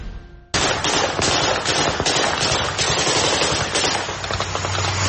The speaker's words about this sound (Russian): Три тысячи мирных жителей села Паник Шаракской области Армении пришли в ужас от выстрелов и взрывов. Они решили, что в селе начались реальные боевые действия.